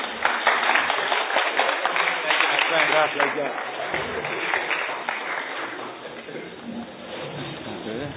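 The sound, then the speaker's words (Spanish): An audience in a church applauds steadily for several seconds to welcome a speaker to the podium, a dense wash of clapping mixed with crowd voices, then the sound thins and tapers off toward the end. “Y un gran aplauso para recibirlo, por favor.”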